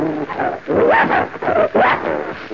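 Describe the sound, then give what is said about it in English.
Bloodhounds, one of them named Prince, growl and bark in a few rough, drawn-out vocal bursts with rising and falling pitch, loud and clear with short gaps between them and no talking. “That's a nice name, and you're a bloodhound, are you?”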